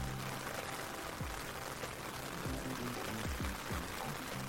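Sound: steady rain falling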